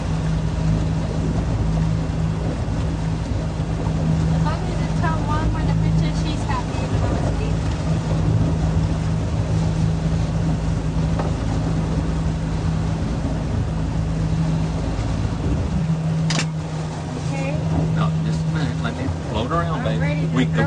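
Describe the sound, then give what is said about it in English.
A motorboat engine drones steadily and loudly on the water from start to finish during a fishing trip, with a constant low hum and rushing wash, while voices talk faintly over it near the end. “But we got to turn the boat around, okay?”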